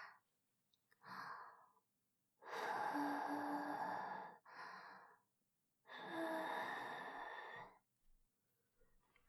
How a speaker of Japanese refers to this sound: どう？私のあったかい吐息、気持ちいいかな？